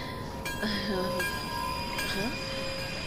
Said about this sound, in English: Huh? What's going on? The train stopped. I don't know what's going on either, man. The train will resume its course momentarily.